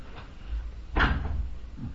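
A single solid thud of a door being pushed shut and latched, fairly loud, with a brief rattle as it settles, over a low hum and no talking.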